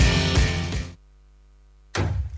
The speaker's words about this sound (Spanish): Ese ruido no es solo una construcción, es el sonido de un sueño que se hace realidad. En Santa Bárbara, estudiantes de arquitectura de la USS diseñaron Casa Colmena, un proyecto de viviendas rurales sustentables que hoy empieza a construir futuro